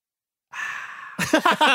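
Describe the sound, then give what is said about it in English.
A voice imitates opening a can of Sprite: a steady, breathy hiss lasting under a second, followed by a few short, loud voiced huffs in quick succession. “That's opening a can of Sprite.”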